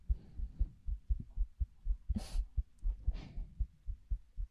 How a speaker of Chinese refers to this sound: 小时候，每次我害怕，我妈妈都会这么做。她说，心跳声会让人安心下来。